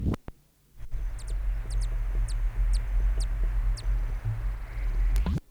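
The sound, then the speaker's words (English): A male bird in its territory gives a series of about eight sharp, high chip notes at irregular intervals, some in quick pairs, as another male flies by, over a steady low rumble of background noise. “Those chips notes were given as another male flew by the territory.”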